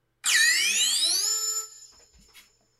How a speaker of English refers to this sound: Nice. That's a great sound. Catchphrase buzzer.